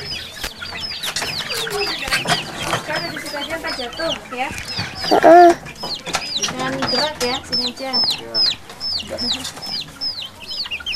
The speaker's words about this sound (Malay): Nih, ayam.